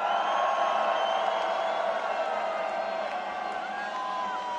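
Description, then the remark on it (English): A huge festival crowd at Tomorrowland screams and cheers in a sustained, dense roar, loud and steady throughout with high-pitched whoops and shrieks rising above the mass of voices. “put your flags up, put your fucking flags up, Tomorrowland, put your flags up, and scream!”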